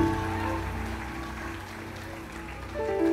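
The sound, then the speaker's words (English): An audience at a healing meeting claps steadily in praise of Jesus, a dense, continuous patter with sustained musical tones held underneath. The clapping and music swell louder near the end. “Keep clapping.”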